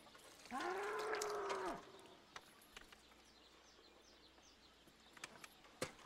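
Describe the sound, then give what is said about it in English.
A single loud, sustained bull moo lasting just over a second, followed by faint bird chirps and scattered clicks in an otherwise quiet outdoor setting. “We don't have a cow. We have a bull.”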